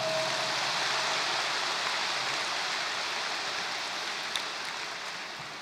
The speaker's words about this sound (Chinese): 对， 鼓掌。